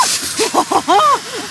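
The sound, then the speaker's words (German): A steady, forceful rush of water blasts from a fire hose opened by pulling its lever back, about 235 litres per minute flowing through, a broad hiss running throughout while a few short voiced exclamations rise over it. “Das war ganz schön krass, das Wasser.”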